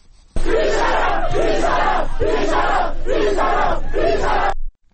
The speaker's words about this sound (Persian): ویدیوهایی نیز از دانشگاه آزاد شهر کرد دریافت شده که نشان می‌دهد دانشجویان در این دانشگاه تجمع کرده و شعار هر یک نفر کشتشه 1000 نفر کشتشه سر می‌دهند.